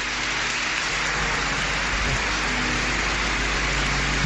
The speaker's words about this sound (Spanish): Es un momento emocionante. Sí. Se acerca al altar ahora para agradecer con un leve gesto de cabeza estos aplausos.